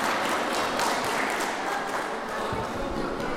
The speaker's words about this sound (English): First of all, okay, so that would be the grade 4, 5, and 6 teachers. So I think we should give all of them a big round of applause for helping out the last little while.